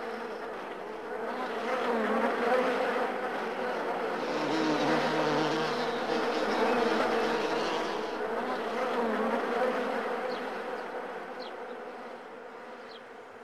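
A dense, steady drone of many bees buzzing together around a busy hive of bees. It swells gently and stays continuous throughout, with no voices.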